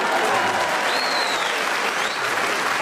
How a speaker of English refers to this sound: Listen, people of Lichfield and further afield, I don't know why you're applauding that.